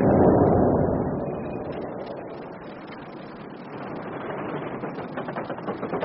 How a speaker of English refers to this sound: Oh, the line's fired. What? The pit's fired. There's been an explosion.